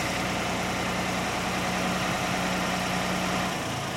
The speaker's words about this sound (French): Magnifique ce tracteur. Ah, c'est une vieillerie, mais il marche bien.